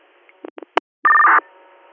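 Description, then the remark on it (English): Radio dispatch tones: three or four quick electronic blips, then a loud, steady tone holding two pitches for about a third of a second, followed by a faint hum of radio static. “You all set on tones?”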